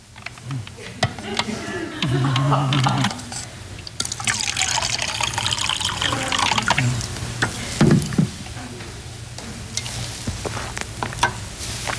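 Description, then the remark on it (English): Water pours into a glass in a steady, splashing stream lasting several seconds, with faint clinks and quiet background noise around it. “Do you really need water?”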